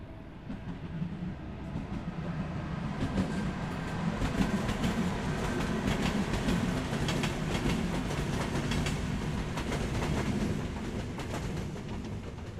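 A steady rumble of a train travelling through countryside along the Thames between London and Oxford, England, in 2018, with a continuous low roar and rhythmic clicks of wheels over the rails carrying on throughout, no voices.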